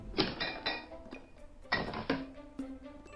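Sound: refrigerator door being opened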